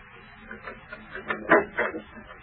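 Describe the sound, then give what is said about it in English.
An office door opening as Mr. Race enters, in a drama scene, heard as a short series of clattering, mid-pitched knocks and rattles, with the loudest clunk about two-thirds through, and no voices. “The door opens and Mr. Race enters.”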